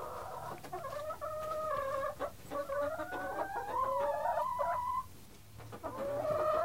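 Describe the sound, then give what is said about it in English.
A hen clucks and murmurs continuously, her tonal, wavering calls rising and falling with brief breaks, sounding restless and complaining, with faint rustling and handling noises beneath as Vaseline is rubbed on her comb and wattles. “When we're not busy greasing up chicken combs or watching our birds fight over kitchen scraps”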